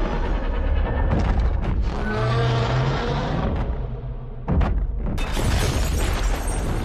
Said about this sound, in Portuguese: mas eu precisava de um monstro gigante que não engolisse tudo em torno dele quando ele grita. E o Muto tinha um som um pouco melhor, tipo, mais nivelado, mais dentro do que eu queria pra fazer as brincadeiras que eu fiz.